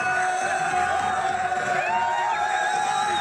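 crowd, crowd cheering in celebration

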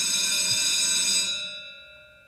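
signal or alarm, bell ringing

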